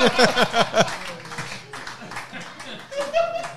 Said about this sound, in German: Ein Applaus für Dr. Oktopus.